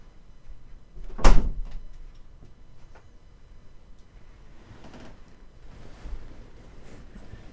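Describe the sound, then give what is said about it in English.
A door slams shut once with a loud, sharp bang near the start, followed by quiet room noise and a few faint, softer knocks. “I mean, if you're going to slam a door.”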